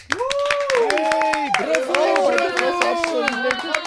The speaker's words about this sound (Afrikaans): Ek moet sê, wat hoor ek? Wat so geknel en geklop is dit? Dis ek is hier so in die kas. Ek wil baie graag uit die kas uitkom.